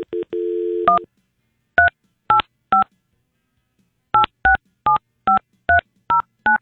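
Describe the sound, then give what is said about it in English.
A steady dial tone for about a second, then touch-tone telephone keypad beeps as a number starting with 385 is dialed: three quick presses, a pause, and a brisk run of eight more, clear with no talking. “All right, let's do 385 just for the fun of it.”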